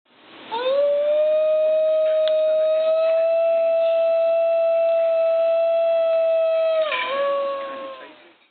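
A New Guinea singing dog lets out a single long, sustained howl holding a steady, eerie pitch with strong harmonics for about six seconds, then dips and wavers briefly before tapering off. Loud, with no talking.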